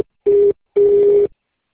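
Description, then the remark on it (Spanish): Two steady electronic telephone tones at one pitch from a voicemail line, a short beep followed by a longer one, loud with silence between them and no talking; the call is charged once the tones end. “La llamada se cobrará al terminar los tonos siguientes.”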